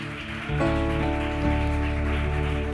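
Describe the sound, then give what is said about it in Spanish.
An audience at a morning service claps loudly for God in a steady, dense, continuous patter that swells after the first half-second, mixed with sustained, droning musical chords underneath. No one speaks. “Estos aplausos son para ti esta mañana.”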